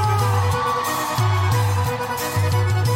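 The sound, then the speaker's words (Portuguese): A large audience at a live show in Fortaleza, Ceará, Brazil whoops and cheers loudly and continuously. The roar blends with music that carries a pulsing, repeating bass line underneath. “Cadê o gritinho do meu Ceará?”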